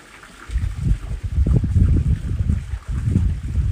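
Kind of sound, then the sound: nature, wind blowing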